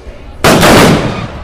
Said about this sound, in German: Ja, und der Kreuznacher Jahrmarkt wird jetzt gleich eröffnet mit 7 Böllerschüssen und einem Ehrensalut mit 1 Stunde Verspätung. So, und jetzt kommt noch der Ehrensalut.